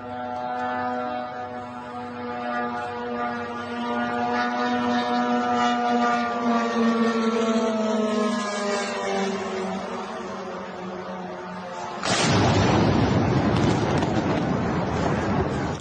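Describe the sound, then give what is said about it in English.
An IRGC drone's buzzing engine whine drones steadily, its pitch sliding slowly lower as it approaches a U.S. hotel in Bahrain, then a sudden loud explosive impact erupts as it strikes and roars on until the end. “This is an IRGC drone versus a U.S. hotel in Bahrain.”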